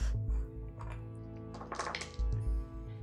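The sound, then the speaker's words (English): Dice tumble and clatter across a tabletop in a quick cluster of light clicks, set against heavy low thumps at the start and end; no one speaks. “Sorry, I'm getting dice all over the table here.”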